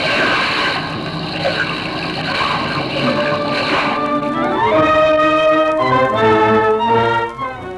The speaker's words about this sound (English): They were just skimming up from the surface of the river when that awful rattling sound came, and down they went back onto the surface with a mighty splash.